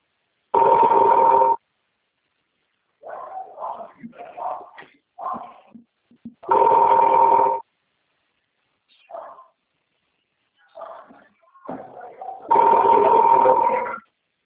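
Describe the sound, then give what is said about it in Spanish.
A phone rings three times, each ring about a second long and spaced several seconds apart, with no answer; quieter voices murmur in the gaps between rings. “Creo que ya lo bloquearon de celular.”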